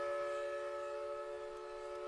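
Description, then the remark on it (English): A century-old steam whistle at the historic paper mill in Park Falls blows at noon, one long, steady, sustained tone with strong harmonic overtones, holding at a constant pitch and loudness throughout, heard alone without any talking. “On the days the mill is operating, a century-old steam whistle sounds at noon over Park Falls.”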